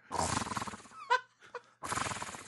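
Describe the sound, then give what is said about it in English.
A person imitates a horse whinny: a loud, rough fluttering blow, a brief high-pitched squeal and a short grunt in the middle, then another long raspy lip-flapping burst. “Oh, I can do the horse noise.”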